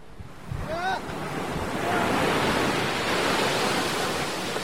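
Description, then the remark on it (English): Surf rolls onto a beach in the Philippines, between a rock cliff and the sea, in a steady, broad roar that swells after the first second and stays full, with a brief faint call near the start. “I'm at a popular spot on the beach between a rock cliff and the sea.”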